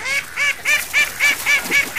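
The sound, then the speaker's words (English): Ducks in a duck pond quack angrily in a rapid, steady series of about eight loud, harsh, nasal calls, with no voices. “The ducks are angry too.”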